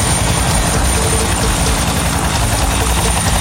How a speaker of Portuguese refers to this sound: Olha o helicóptero posando aqui.